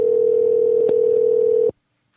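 A phone ringing tone heard down the line: one steady, clear electronic tone holding for nearly two seconds before cutting off abruptly into silence, with no voices.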